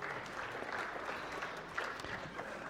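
An audience applauds steadily, a dense wash of many hands clapping at an even, sustained level for the whole stretch, with no voices standing out.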